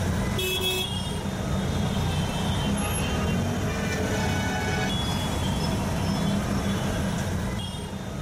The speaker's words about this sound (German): Stadt? Das klingt nach Beton und Asphalt, nach vielen Menschen, verstopften Kreuzungen, überfüllten Einkaufszentren, nach Straßenlärm, Abgasen, grauem Staub.